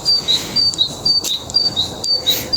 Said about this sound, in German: Das singen die Vögel. Ist das nicht schön?